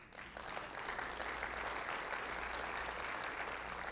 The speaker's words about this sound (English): You ought to give your own self a clap offering to the Lord for that. God bless you.